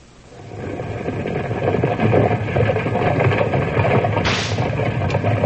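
A team of 12 mules driven by Skinner McNeil hauls two large wagons full of a special sand, used by the Mountain Refining Company to make glass: a steady rumble of wheels, hooves and creaking load that builds quickly and holds loud, with one sharp crack partway through.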